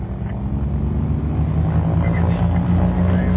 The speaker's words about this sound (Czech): Motorová zkouška. To znamená, že motor funguje, ale my stojíme.